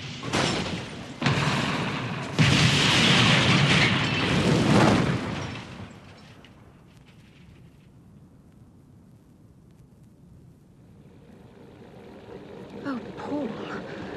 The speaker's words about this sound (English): You've hit it. You've hit the tire. You... My God, the car's turning over. It's turning over.